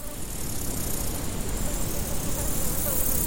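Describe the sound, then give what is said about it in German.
A steady outdoor hum of insects buzzing, with a bright high chirping layer on top, continuous throughout, in a meadow with tall grass under a burning sun. “Eine Wiese, das Gras steht hoch, die Sonne brennt, es summt und zirpt.”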